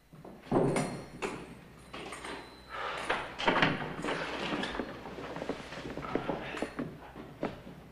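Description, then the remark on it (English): A man rattles the handle of a locked door in a small room with several sharp, clattering knocks, then another door creaks open as a priest and a boy carrying a mug and jug come in, followed by shuffling footsteps and light knocks. “There are another two doors. Joe tries one of them and finds it's locked. Through the other door, the padre appears.”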